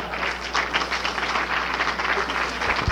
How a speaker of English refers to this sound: would you like to respond to this round of applause in any way other than your usual modesty?